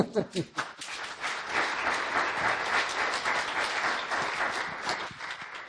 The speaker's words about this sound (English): I think applause is in order.